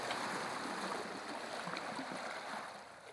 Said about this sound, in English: True to form, the next morning dawns fair and bright, with a good sailing breeze. So off we go, cutting through the water, with therapeutic sounds almost like waves on the shore.